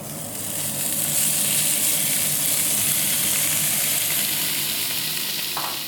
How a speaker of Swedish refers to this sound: I samma stekpanna åker baconet.